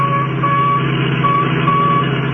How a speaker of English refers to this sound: That's the signal from the radio in the Royal Coupe that they got away with. Yeah. It's getting louder.